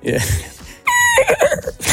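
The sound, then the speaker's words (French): A person's voice mimics a horse's whinny up close, starting with a strained, high cry and breaking into a quavering, wobbling neigh that trails off, preceded by breathy vocal noise. “Moi, je sais faire du cheval.”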